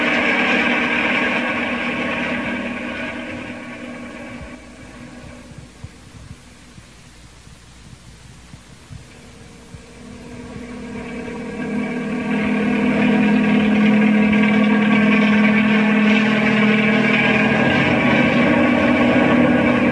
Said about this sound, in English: Bring the copter closer, Bill. Shine the light on the side of the mountain above us.